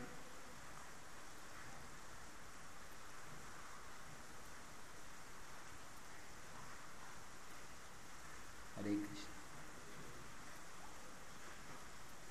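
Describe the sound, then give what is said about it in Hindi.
Steady, quiet rain hisses evenly for the whole stretch, a soft wash of noise with one brief louder tap near the end and no voices. “मैं सोच रहा था कि बरसात है इसलिए शायद कोई डिवोटी बाहर से नहीं आएंगे”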